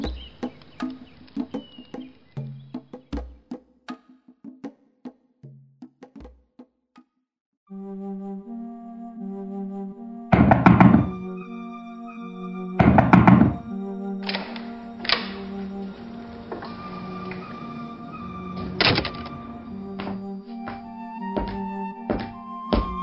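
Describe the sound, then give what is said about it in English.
Two heavy, booming thuds land a couple of seconds apart, someone pounding hard on an office door, nearly knocking it down, loud over a plinking, rhythmic musical backdrop. “So it seems, Bertram, especially considering you nearly knocked down my office door.”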